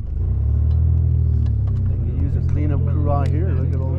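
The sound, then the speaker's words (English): An old pickup truck engine idles with a steady, heavy low rumble throughout as a group of middle-aged farmers leave ditch-cleaning and pile into the back, while muffled voices chatter over it toward the end. “Soon, lunchtime rolls around, and a group of middle-aged farmers leave their ditch-cleaning duties and pile into the back of an old pickup truck.”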